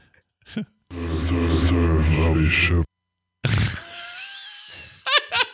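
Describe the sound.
A deep, slowed-down voice recording played backwards, its warped, moaning syllables smeared by echo, coming in two long droning stretches separated by a short silence, then a few choppy bursts.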